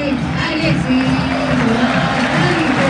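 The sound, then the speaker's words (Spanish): Faint, scattered applause rises from a stadium crowd for Argentina substitute Enzo Fernández as Argentina's substitutes come out, blending into a steady, dense wash of crowd noise that holds at an even level throughout. “Un aplauso tenue para Enzo Fernández.”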